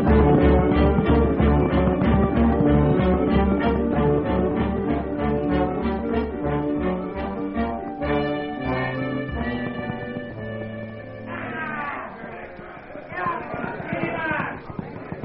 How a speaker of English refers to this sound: Well, that must be them. Come on, we'll gallop over there. Come on, boy.